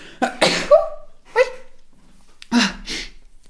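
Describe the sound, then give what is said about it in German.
A series of sharp, explosive sneezes, three bursts with short pauses between them, loud and breathy with no talking around them. “Oh, ich muss niesen.”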